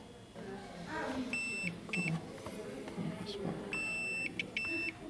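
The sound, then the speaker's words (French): A continuity tester beeps in short, high electronic tones, two quick beeps, then a pause and two longer ones, as it checks whether current passes through a resistance, over a murmur of background voices and room noise. “Donc là, le bip qu'on entend... C'est le testeur qui dit si le courant passe ou pas.”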